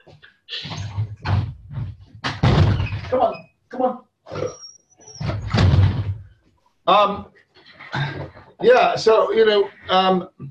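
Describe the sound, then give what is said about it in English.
A dog pushing and banging against a door: repeated loud rattling thumps and scrapes come in bursts, followed by short muffled vocal sounds and more knocking. “The bloody dog's cracking the door down.”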